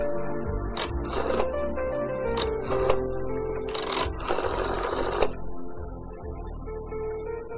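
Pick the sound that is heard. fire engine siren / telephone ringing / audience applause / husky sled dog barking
telephone ringing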